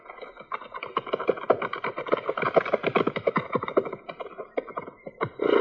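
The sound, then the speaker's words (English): Horses' hooves clip-clop in a quick, steady rhythm as Indian riders approach on a Sioux reservation, the overlapping beats moderately loud over a faint tonal background, with no talking. “I tell you, if they're riding toward you this way, it's comforting to know they ain't hostile.”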